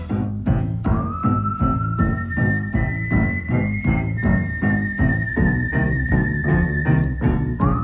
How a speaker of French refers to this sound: vous reconnaissez le sifflement